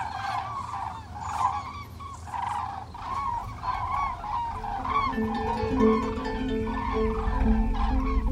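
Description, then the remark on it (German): A flock of cranes calls loudly and close by, with repeated overlapping trumpeting cries. A steady low rumble joins in partway through, and no one speaks. “Jetzt kommen auch wieder Kraniche.”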